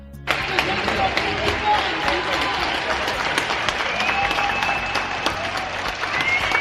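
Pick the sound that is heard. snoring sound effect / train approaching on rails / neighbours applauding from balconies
neighbours applauding from balconies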